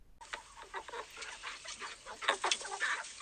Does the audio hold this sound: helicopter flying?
no